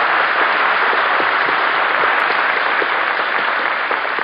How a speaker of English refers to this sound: I think we ought to give a nice round of applause to our little actress,